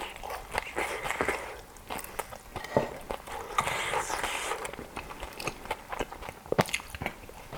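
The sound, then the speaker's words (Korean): Crisp crunching as a crispy dumpling is bitten and chewed, with repeated sharp snaps and crackles over a steady rhythm of mastication and no talking. “그 바삭함 때문에 그런지.”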